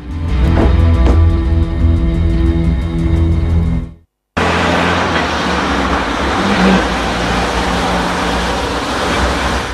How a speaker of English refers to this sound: Eventually, they get back in their car and drive away.